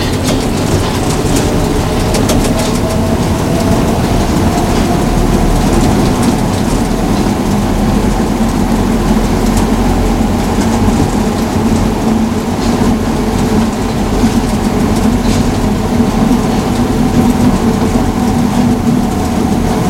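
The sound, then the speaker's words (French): A steady, loud rumble of a Paris metro train in motion, with a constant low roar and hiss of wheels on rails that continues unbroken throughout, with no voices. “Décide, c'est qu'il quittera le métro, place de l'Étoile.”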